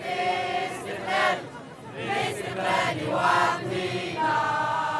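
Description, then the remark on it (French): A dense crowd gathered facing a statue of Marianne murmurs and calls out continuously while listening to a speech, with several raised voices swelling above the hubbub every second or so, steady throughout. “Face à la statue de Marianne, une foule compacte écoute un discours.”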